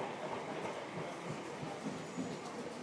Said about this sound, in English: Don't know how long the train is, so.